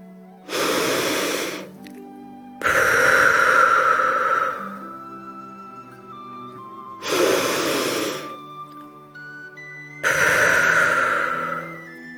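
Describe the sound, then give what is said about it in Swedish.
Two slow, deep breaths taken as a relaxation exercise for falling asleep: a rushing inhale through the nose followed by a longer, airy exhale through the open mouth, repeated twice with calm pauses over soft background music. “Andas först ett par långa djupa andetag in genom näsan och ut genom öppen mun.”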